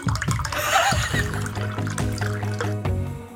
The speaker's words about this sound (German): Warte mal, ich gieße mir erstmal einen Ramazzotti an, der macht das Original so.